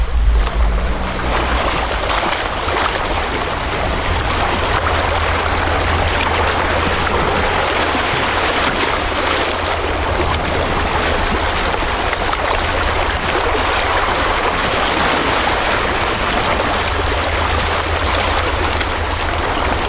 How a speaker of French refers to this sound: si tu n'entends que le bruit des vagues, c'est que ta radio fonctionne parfaitement.